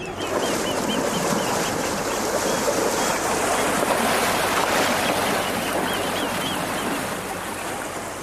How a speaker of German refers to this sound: Zum Schluss war es noch das Anlegegeräusch der Priwalfähre. Die fährt den ganzen Tag hin und her zwischen dem Priwal und der Uferpromenade. Mit Möwe sogar.